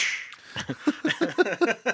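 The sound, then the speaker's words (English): A voice mimics a whip crack as part of a Harrison Ford impersonation of Dr. Jones: a breathy hiss that snaps into a quick run of sharp, clipped vocal bursts, fairly loud. “whip over.”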